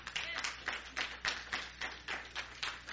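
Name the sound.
audience clapping hands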